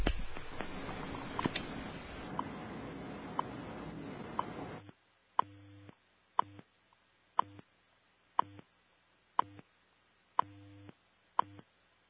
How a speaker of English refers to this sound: Okay, these little taps are basically time checks. You'll hear an announcement in a few seconds. At the tone,